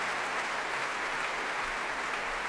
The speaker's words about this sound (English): The novice, Peter Gisbertson, takes his applause.